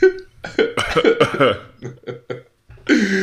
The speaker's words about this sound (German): hustet leicht.